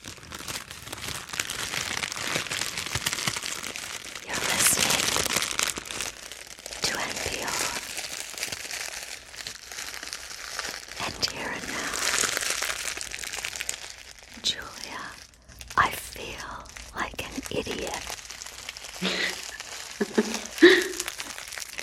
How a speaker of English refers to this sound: I'm going to start with a crunching brown paper bag. Let's see.